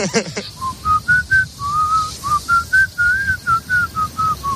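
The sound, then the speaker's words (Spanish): A person whistles a simple, wavering melody of short and held notes, clear, with no talking over it. “Mejor o peor, oye, todos alguna vez hemos silbado.”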